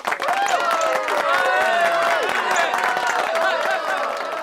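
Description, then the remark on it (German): A group applauds after a poem is recited, with steady, dense clapping, mixed with a crowd's cheering and overlapping voices, sustained throughout. “Das war ein schönes Gedicht und alle klatschten.”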